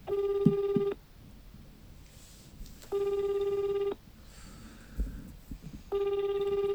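A telephone ringback tone of an outgoing call that goes unanswered repeats three times, each steady one-second burst followed by about two seconds of quiet, clear with faint background noise between rings.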